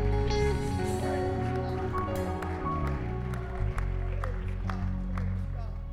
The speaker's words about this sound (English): Come on, one more time. Why don't you clap your hands to him and praise him and shout to God with a voice of triumph.